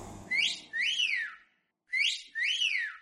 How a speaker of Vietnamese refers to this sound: Vừa ủi, ông vừa huýt sáo nghêu ngao ra vẻ vui tươi chẳng có gì làm ầm ĩ.